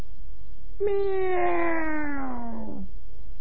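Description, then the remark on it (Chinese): A human voice imitates a kitten's meow: one long, drawn-out mew that slides slowly downward in pitch for about two seconds, clear, with no other sound around it. “哎呦，低头一看，是个小猫。”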